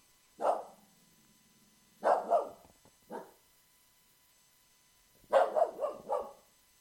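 A dog named Frank barks at a house window in irregular bursts: a single bark, a quick pair, another lone bark, then a rapid flurry of several barks after a pause. Clear, with no one talking.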